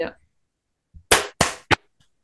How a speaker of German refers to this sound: Ich muss Ja, kurz weil dann einmal habe ich. klatschen, dann finde ich das auf der Aufnahme.